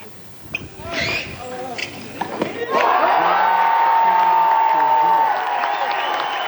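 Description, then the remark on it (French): A tennis crowd with scattered voices and sharp smacks gives way, after about three seconds, to a loud, sustained roar of cheering that holds steady to the end, acclaiming the winner of a 6-3, 4-6, 7-5 match against Rodionov. “Il s'est donc imposé contre Rodionov en 2h38 de jeu, 6-3, 4-6, 7-5, avec les acclamations du public en prime.”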